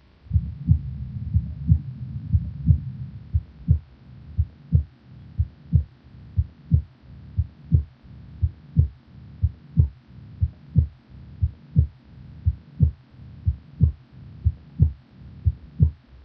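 Steady, regular heartbeat heard through a stethoscope over the aorta of a patient with mitral heart valve disease and signs of pulmonary circulation congestion, paired low thumps repeating about once a second, muffled, with a low hum underneath and no talking.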